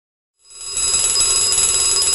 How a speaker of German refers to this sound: Der Wecker klingelt.